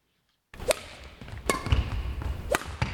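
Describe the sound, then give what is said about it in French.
Badminton shuttlecocks being struck in the Country Hall multisport hall in Liège, early in the morning with empty stands, as one student player trains with her coach: about five sharp, snappy racket hits at an irregular pace over a steady rumbling hall background, starting after a brief silence. “Dans cette salle omnisport du Country Hall de Liège, ce ne sont pas les mouches qu'on entend voler, mais les volants de badminton.”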